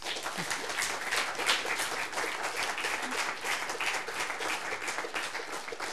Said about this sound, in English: Thank you very much. I think he deserves a special applause for that.